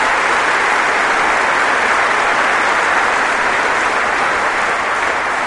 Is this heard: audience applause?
yes